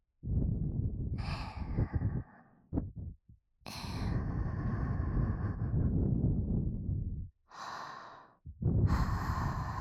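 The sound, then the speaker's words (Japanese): Long, breathy exhales blown right into the microphone, several in a row with brief gaps between them, each an airy rush of sound with no talking. “まずは私たち、メス猫の下で、吐息で、敏感な体になってもらいますにゃ。”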